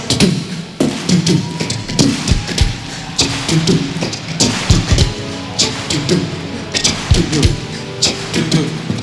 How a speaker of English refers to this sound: Why don't you clap your hands with us like this? Come on, everybody.